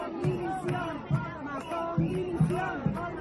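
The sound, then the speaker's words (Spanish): A crowd of protesters in Alicante shouting and chanting against Mazón, head of the Consell, amid clashes with those accompanying him: many overlapping raised voices with rising and falling cries and sharp rhythmic bursts, loud and continuous throughout. “Los gritos también han provocado enfrentamientos entre los que protestaban y los que acompañaban de alguna forma al jefe del Consejo.”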